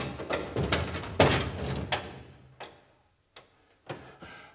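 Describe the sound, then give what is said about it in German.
A heavy door is pushed shut, locking a man inside, with a cluster of loud thuds and metallic clunks, followed by a few softer latch clicks spaced out as things settle. “Ich verlange, dass Sie sofort die Tür öffnen!”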